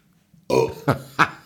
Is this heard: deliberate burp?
yes